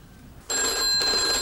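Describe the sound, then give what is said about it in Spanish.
After a brief quiet moment, a call is dialed on a mobile phone and a telephone starts ringing loudly and steadily, a bright electronic ring with high tones that continues to the end. No one speaks. “se saca el móvil comprobando que Chloe sigue dentro y marca rápidamente”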